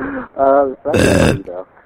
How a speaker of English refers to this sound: Oops. Actually, you burp quite often. Listening to your podcast and hearing you burp. Actually, you burp quite often in your podcast.